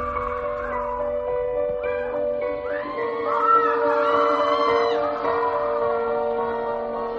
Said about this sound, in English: An ambulance wailed through the streets